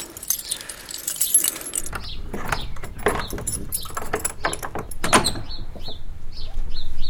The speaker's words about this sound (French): Ton vieux trousseau de clé. Avant que tu changes la serrure. Il y en a peut-être une de la chapelle.